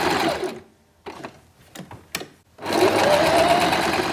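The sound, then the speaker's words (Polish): A sewing machine sewing pillows runs in a steady whirring burst, stops for a moment with a few clicks and taps, then starts again with a rising mechanical hum. No one speaks. “Pracuję taśmowo, czyli najpierw kroję, później zszywam, później wypełniam.”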